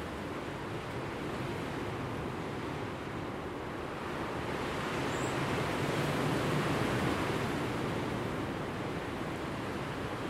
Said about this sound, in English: It's Thursday, the 20th of February. And we're back to the wild, windy weather again.